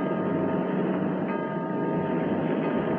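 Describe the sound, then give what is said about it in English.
A loud alarm gong, the submarine level emergency signal, rings on without a break, its metallic, layered tones sustained over a dense, rumbling wash of noise. No one speaks. “There's that alarm gong again.”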